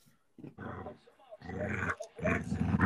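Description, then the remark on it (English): A dog growls in three rough, sustained bursts, each starting loud and rumbling, with the last one the longest and most intense. “that growling makes me so happy inside.”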